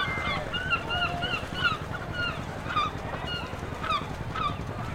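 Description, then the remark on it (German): Seagulls call repeatedly, several overlapping cries scattered throughout, over a steady low rumble of background noise like wind or surf. The aggressive gulls occasionally swoop onto a heap of spilled cinnamon powder in a street. “Die aggressiven Möwen stürzten sich gelegentlich auf diesen Haufen Pulver.”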